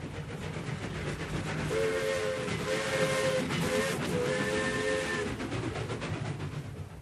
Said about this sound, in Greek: Και στο σιδηροδρομικό σταθμό, όπου ο Σόρτι Χόκινς σηκώνει τη σημεούλα για το τρένο της Βοστόνης των 5 και 45.